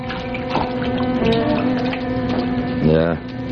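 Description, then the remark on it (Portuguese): Water sloshes and drips as a .22 caliber automatic pistol is lifted out of a water-filled tank, over a steady low hum, with a brief vocal sound near the end. “Há uma pistola automática dentro deste tanque cheio de água. Pode pegá-la.”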